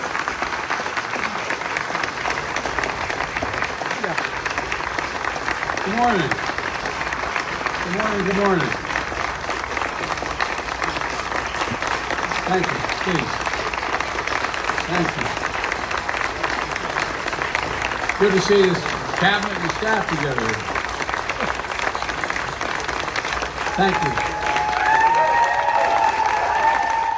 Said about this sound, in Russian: Его тепло приняли сотрудники Белого дома, члены кабинета и его родственники. Аплодисменты длились несколько минут.